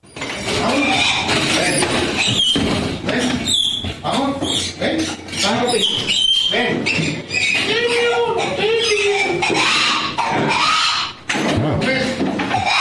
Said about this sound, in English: We have audio. Now, there's a, you know, they're speaking Spanish, but you'll hear the monkey.